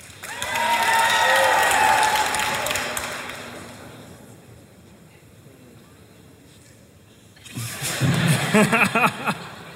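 An audience cheers loudly to vote on whether a person was telling the truth, with high whoops and shouts, the roar fading over a few seconds, then a second burst of cheering and yelling rises near the end.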